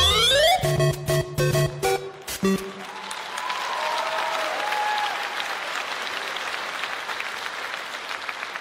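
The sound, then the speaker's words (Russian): A brief burst of punchy music gives way to an audience clapping, a steady, fairly subdued patter of applause that carries on without cheering or voices until the end. “А что такие аплодисменты слабые”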